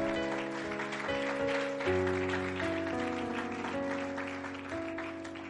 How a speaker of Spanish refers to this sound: Dale un aplauso fuerte a nuestro Dios, venga.